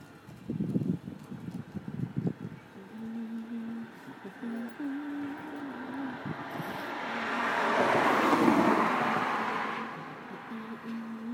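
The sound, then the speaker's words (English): A bus approaches with a steady low engine drone, its broad rumbling roar swelling loudly toward the end before easing slightly; a few clattering knocks come at the start. “I think there's a bus coming here, I think.”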